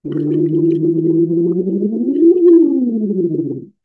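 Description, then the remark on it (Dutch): A voice hums through fluttering lips in a steady lip trill as a vocal warm-up for nearly four seconds, its buzzy pitch holding level, then sliding up and back down before stopping abruptly. “En wie mij al een beetje kent, die weet dat ik ga bubbelen. En dat klinkt als volgt.”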